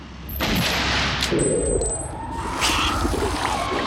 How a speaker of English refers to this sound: Hearing gunshots, Rhonda looks over at the little house. Heather and Bert fire repeatedly at the creature.